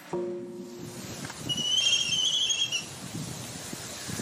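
An albatross gives a brief low tonal note, then a high, thin squealing call lasting about a second, with a steady wash of surf noise underneath throughout.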